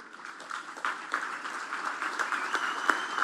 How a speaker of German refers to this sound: Applaus braust auf, als der Übersetzer die Worte von Papst Franziskus auf Englisch vorliest.